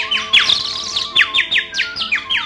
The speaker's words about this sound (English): The whole world is happy. The sun is shining and the birds are singing. Probably the happiest bird is our friend Tweety.